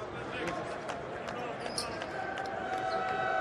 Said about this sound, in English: And that should be it. 68 points to 79. The final buzzer can be heard.